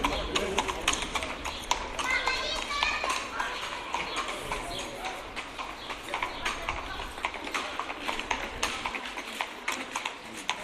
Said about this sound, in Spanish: Caballos percherón que no existe ya. Eso yo no sé dónde están, pero eran algo dementiales y llevaban un carro con ruedas, yo de metálicas no las conozco, con ruedas de goma, pero llevaba, ese señor llevaban muchos sifones, los sifones para los bares,